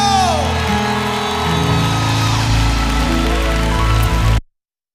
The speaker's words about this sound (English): America, would you clap your hands for my new African brother